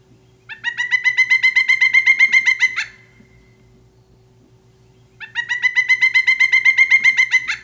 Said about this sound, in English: Pileated woodpeckers also have a loud, jungle-like, raucous, whinnying call that ricochets through the woods.